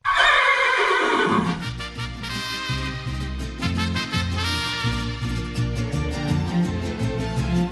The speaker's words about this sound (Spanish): Porque ha acercado un micrófono, obviamente, a una mosca lastimada, moribunda, ha amplificado ese sonido y se ha dado cuenta de que ese sonido es tan desgarrador como el relincho de un caballo.